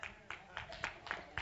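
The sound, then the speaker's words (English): An audience claps in a steady rhythm, about six sharp, evenly spaced claps in under two seconds, fairly soft, clapping for water. “We're clapping water.”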